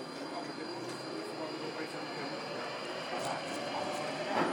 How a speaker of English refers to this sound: if I'm on the wrong train. The next station is Kentish Town.